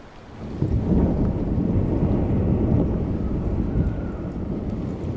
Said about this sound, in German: Mit brachialer Gewalt stürzen Eismassen ins Meer. Das Wasser brodelt und schäumt, wenn im kurzen arktischen Sommer große Eismassen abbrechen und Gletscher ins Meer vorstoßen.